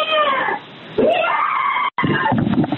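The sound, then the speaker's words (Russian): A woman screams in long, wavering, high-pitched cries, muffled behind a door and heard over a neighbour's phone call to emergency number 112, with a brief cut before the screams resume. “Девушка, вы слышите, как она орёт там за дверью?”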